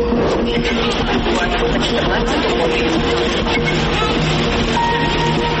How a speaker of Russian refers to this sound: Этот вопрос мы решили задать здесь, на Киевском железнодорожном вокзале.